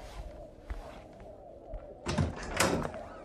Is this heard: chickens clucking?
no